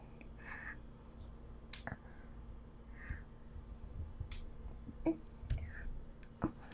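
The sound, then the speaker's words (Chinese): Several sharp little clicks and taps as a dropped pen hits a hard floor and is fumbled and picked back up, with a faint steady hum underneath. “笔掉了。不用，我来捡吧。”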